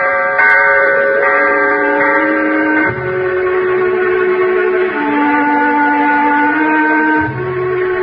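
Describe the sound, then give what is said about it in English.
A bell tolls slowly, each deep stroke ringing out in a long, sustained hum that blends into the next, with a fresh strike every couple of seconds and no voices. “That bell is tolling for us.”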